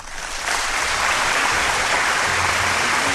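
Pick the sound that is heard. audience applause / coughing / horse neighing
audience applause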